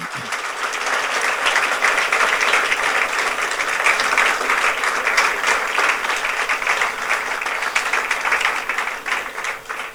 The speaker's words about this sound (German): Lass uns doch Ihnen noch einen grossen Applaus geben.